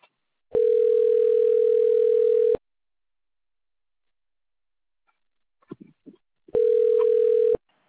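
Two long steady ringback tones on a phone line while a call waits to be connected to a customer service advisor, each about two seconds, separated by a pause with a faint click or two, heard clearly and alone.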